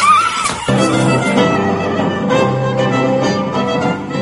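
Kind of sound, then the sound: vocal imitation, imitated horse whinny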